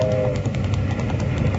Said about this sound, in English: Hey, stop that iron horse. There's a boulder on the track.